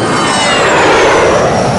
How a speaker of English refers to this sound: The plane is about to take off.